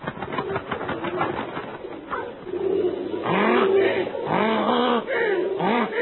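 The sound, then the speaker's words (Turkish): Pigeons coo in repeated low, rounded calls, several birds overlapping, with a steady rustling background that suggests wings flapping; the cooing grows louder toward the end. “Güvercinler ordusu insanlara hücum.”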